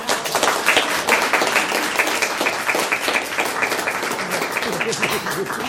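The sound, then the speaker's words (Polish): A crowd claps steadily throughout, a dense, sustained patter of many hands that neither builds nor fades, with no clear voices rising above it, at the opening of an exhibition at the Artbrut gallery and studio, welcoming an artist and illustrator. “Brawa.”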